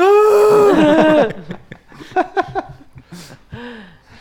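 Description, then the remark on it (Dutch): A voice mimics snoring as a loud, drawn-out, wavering cry like a frightened scream, lasting about a second, then breaks into short choppy laughs and chuckles. “Ik snurk niet echt, het is meer een angstige schreeuw.”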